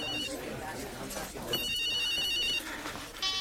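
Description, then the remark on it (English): A mobile phone ringtone trills in bright, repeating electronic bursts over a murmur of background voices and room noise. “Oh, I cannot believe you've got your phone switched off. I'll just go outside to answer it.”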